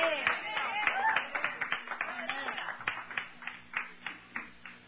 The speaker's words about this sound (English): I got to get a certain amount of applause before I'll ever quit. Y'all ain't got me started yet. Hallelujah.